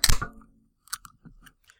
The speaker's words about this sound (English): That's a beautiful sound wave that makes on Audacity when you open a can of Coke. Oh, now I'm excited to see it. It looks like a roller coaster ride or something.